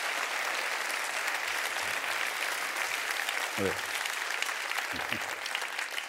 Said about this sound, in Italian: Grazie ai tecnici, un applauso anche ai tecnici, ragazzi.